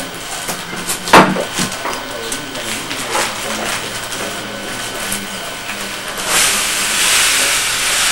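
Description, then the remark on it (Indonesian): Liquid boiling in a cooking pot, a steady hissing bubble with occasional sharp pops and clinks, swelling into a louder, fuller hiss near the end, with faint voices in the background. “Mungkin sambil mendidih dia agak berkurang ya.”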